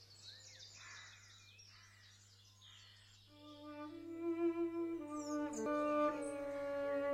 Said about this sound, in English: And the funny thing was, it didn't come from high up in a tree. It seemed near the ground. Bless you, miss. That's the nightingale. So, he's come back after all these years.